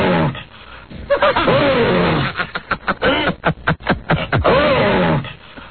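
A loud 'Ape Man' roaring sound effect, number 72, with ape-like growls, rising and falling across several bursts, followed by a rapid series of harsh, pulsing grunts and another drawn-out roar.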